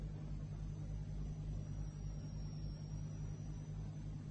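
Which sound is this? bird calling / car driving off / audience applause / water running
car driving off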